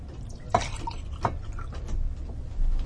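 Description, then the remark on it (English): Juice being poured into a glass, with two sharp splashy glugs early on over a low steady rumble, moderately quiet, with no one talking. “Well, you should shake it up before you pour it.”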